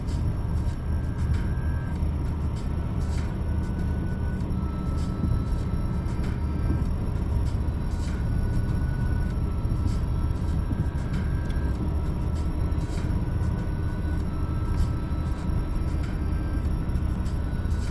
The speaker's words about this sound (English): Not even going 70 here, we're in the left lane. Traffic's a bit picking up. Picking up a bit, rather.